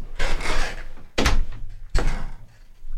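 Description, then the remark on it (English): A door is pushed shut with a couple of heavy wooden thuds and rattles, followed by a broad rush of noise that settles as the door closes. “Let me close this door.”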